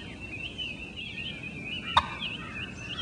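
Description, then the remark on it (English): A single sharp, abrupt turkey alarm 'put', one short loud note standing out against a steady, faint background hum of insects or birds. “There's a put sound, which is an alarm call. That's this.”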